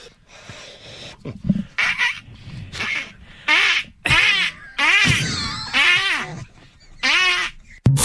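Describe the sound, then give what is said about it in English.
A string of about eight loud, nasal quacking duck calls imitated by a human voice, each a short wavering burst in close succession, with no talking in between; an outtake from the Zolak and Bertrand show on 98.5 The Sports House. “Now that, those duck calls.”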